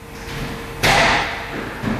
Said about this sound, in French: Alors, il faut tendre l'oreille, hein, mais on entend des portes s'ouvrir, des objets être déplacés, quelques bruits de pas aussi sur les 12 chansons de cet album.